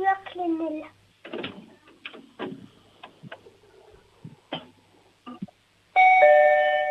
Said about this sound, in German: Wow, das ist ja eine tolle laute Türklingel.